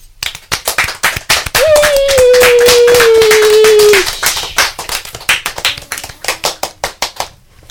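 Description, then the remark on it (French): A round of applause, many hands clapping in quick, dense, irregular bursts, with a steady tone sounding in the middle stretch and then fading clapping toward the end. “Vous savez quoi, j'ai envie de vous applaudir.”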